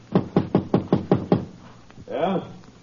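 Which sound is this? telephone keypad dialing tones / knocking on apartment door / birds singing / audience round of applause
knocking on apartment door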